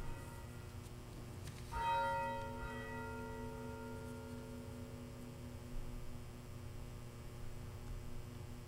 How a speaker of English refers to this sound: Having heard the bell being rung, let us come together in prayer.